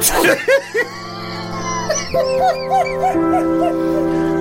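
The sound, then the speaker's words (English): A short burst of dog yips and barks, several quick calls in a row, fairly loud over a sustained humming tone, with no one speaking. “The only animal there was a dog.”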